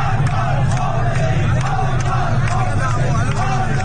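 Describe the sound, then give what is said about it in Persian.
A large crowd in the Naziabad area of Tehran, celebrating Esteghlal's championship, chants slogans against the leader of the Islamic Republic in unison, a dense roar of many voices with rhythmic shouted bursts, loud and continuous throughout with no pauses. “در تهران نیز از منطقه نازی‌آباد ویدئویی در شبکه‌های اجتماعی منتشر شده که نشان می‌دهد مردم در کنار شادمانی برای قهرمانی تیم استقلال علیه رهبر جمهوری اسلامی شعار می‌دهند.”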